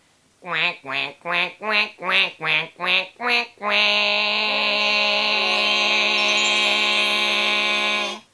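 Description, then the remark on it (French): A person imitates a duck, giving seven quick, evenly spaced nasal quacks, then stretching into one long, loud, drawn-out quack held for about four seconds. “Bon, attendez, je vais mettre fin à ce que j'oserais appeler un conflit de canards!”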